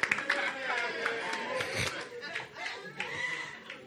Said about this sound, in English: Clap for the Lord Jesus.